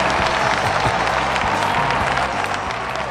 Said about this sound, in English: Oh, raucous applause. Thank you. Thank you very much. Thank you.